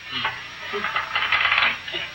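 Hands slap repeatedly against a hard floor in a quick, uneven flurry of flat smacks that runs for about two seconds at a steady, moderate loudness, with no voices, as a man on his knees slaps the floor.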